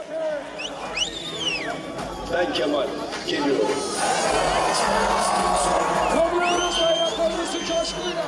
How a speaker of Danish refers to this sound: Og folk råber alle mulige forskellige slagsange. Blandt andet er der, bliver der råbt farvel Erdogan og kartofler og løg, som er sådan en hentydning til den her økonomiske krise og prisen på fødevarer.